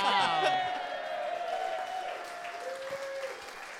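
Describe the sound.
A crowd bursts into steady, dense applause mixed with loud cheering and whooping voices, sustained for a few seconds and gradually easing slightly toward the end.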